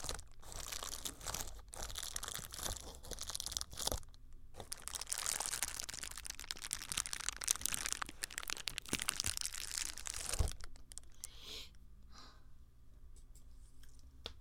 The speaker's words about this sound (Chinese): 这个是什么知道吗？那个塑料的泡沫纸。